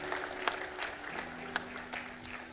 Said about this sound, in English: Can we give these folks a big hand clap as they're coming? Just here, over there, in the back there.